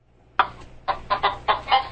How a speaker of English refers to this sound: That's that chicken alert. Is that it? Don't play the chicken alert. No, it didn't sound like that.